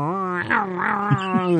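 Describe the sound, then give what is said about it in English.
A person vocally imitates the rumbling, growling noise his stomach made after eating Taco Bell: one loud, sustained, wavering groan lasting under two seconds, with no other sounds around it. “That's coming from my stomach.”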